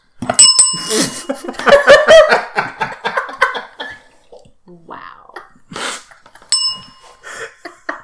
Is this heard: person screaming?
no